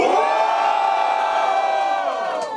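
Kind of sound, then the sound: crowd, crowd cheering and shouting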